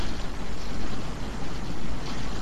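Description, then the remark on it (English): Hail falling in a dense, continuous rattle, thousands of tiny impacts merging into a loud, steady hiss with a low rumbling undertone; no voices. “Hail. Wow.”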